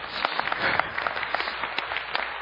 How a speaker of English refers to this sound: I'd rather you clapped at something I said, but you can clap at C.S. Lewis, that's fine.